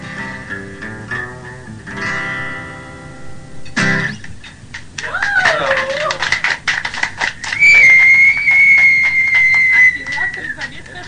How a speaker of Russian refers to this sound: Это он свистит, потому что ему понравилась для него песня.